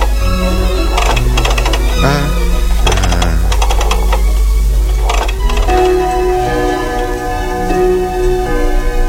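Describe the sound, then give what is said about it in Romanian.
A splendid pendulum wall clock hanging on the back wall of a room with massive, heavy period furniture is set going, with rapid clustered ticks and clicks in short bursts over a steady low hum and sustained, tonal ringing notes. “Am uitat, pendula trebuie pornită și ea.”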